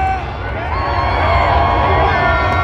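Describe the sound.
A large outdoor crowd at Donald Trump's presidential inauguration roars continuously, a dense wash of shouting, booing and cheering voices with scattered calls rising above the din, steady and loud throughout.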